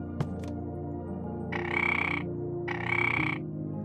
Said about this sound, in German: Der Frosch quakt aufgeregt.